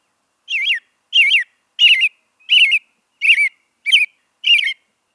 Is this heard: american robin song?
yes